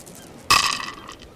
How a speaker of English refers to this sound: Let us roll the dice for you.